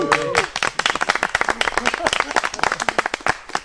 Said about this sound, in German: Er hat seinen 100. Macht mal Foto. Genau, können wir mal kurz Jubel haben für den 100.